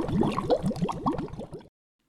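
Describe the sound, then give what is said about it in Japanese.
A voice rapidly imitates water bubbling as something sinks deep to the bottom of a river, a quick string of about ten gurgling burbles in steady rhythm, moderately loud, cutting off abruptly into silence. “ポッカーンバッシャーン、 ブクブクブクブクブクブクブクブク。”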